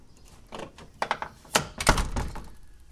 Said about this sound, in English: And slam this big door, which rattles the mirror on the wall.